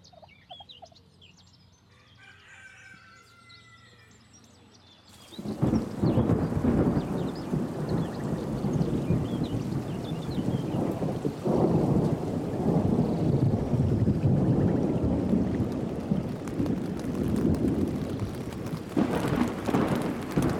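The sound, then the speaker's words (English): After a few seconds of quiet bird calls, an afternoon thunderstorm bursts in: a loud, steady roar of pouring rain with deep rumbling thunder that continues unbroken to the end. No one speaks. “thunderstorm came up in the afternoon, and consequently, Chunky and David had to put up their tent in pouring down rain.”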